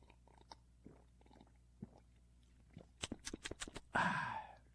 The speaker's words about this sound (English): Wait a minute, let me take a sip of coffee on that.